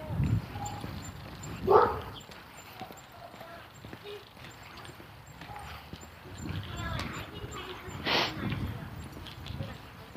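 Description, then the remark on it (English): A large wolfhound, walked by a man on the sidewalk, barks a couple of times, separate loud woofs several seconds apart, over an outdoor street scene with footsteps and murmuring voices in the background. “Guy with his wolfhound.”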